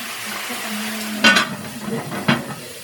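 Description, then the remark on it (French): A utensil scrapes the bottom of a pot of cooking curry in two short, rough strokes to keep the bottom from burning, over a steady background sizzle and hiss, with a faint low hum early on. “En fin de compte, il faut bien gratter pour pas que le fond il brûle.”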